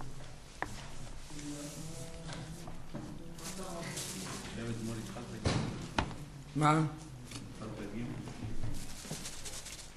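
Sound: door opening or closing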